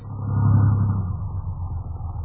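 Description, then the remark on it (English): A car engine churns and strains as it tries to start, a low muffled rumble that swells early, then sputters on unevenly for a couple of seconds with no voices. “Maybe the car'll start.”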